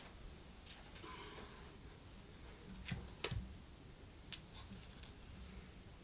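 clock ticking

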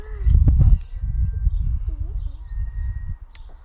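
birdsong

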